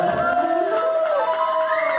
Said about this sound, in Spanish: Compañía, vamos a darle fuerte aplauso a la gente que estuvo presente hoy.